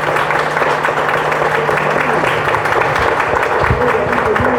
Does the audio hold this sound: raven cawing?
no